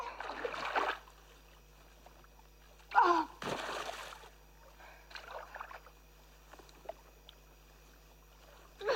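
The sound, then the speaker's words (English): Water sloshes and splashes in several uneven bursts, with a heavy, louder splash near the middle, as a woman standing in the shallow end of a swimming pool struggles to haul a man's body out of the water; a faint gasp-like breath is audible. “She now stands in the shallow end of the pool, struggling to haul David's body out.”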